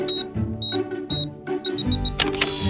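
Several short high electronic beeps and soft mechanical clicks, a quick run of four beeps, then a sharp, brighter camera shutter snap near the end as a camera takes a photo of everyone. No voices.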